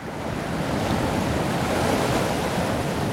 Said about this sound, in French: On pourrait même l'écouter des heures. Ça, c'est France Inter deviendrait la radio zen qui passerait sans fin le bruit des vagues sur les rochers, puisque tel est ce son magnifique, oui.